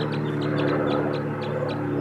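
wild birds calling

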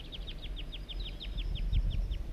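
juvenile wild bird vocalizations

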